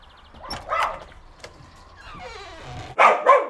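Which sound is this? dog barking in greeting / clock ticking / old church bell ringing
dog barking in greeting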